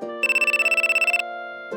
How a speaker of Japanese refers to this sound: あ、電話。誰からだろう。お仕事かな。